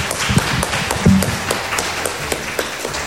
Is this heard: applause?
yes